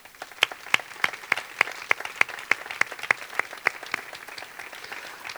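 A crowd applauding the festival committee and the barraques committee, with steady, evenly spaced sharp claps standing out above a dense wash of clapping hands for several seconds. No one speaks.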